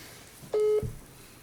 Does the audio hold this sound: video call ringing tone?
yes